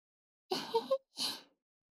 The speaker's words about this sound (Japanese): さっきと同じように、お耳フーフーしてあげますので。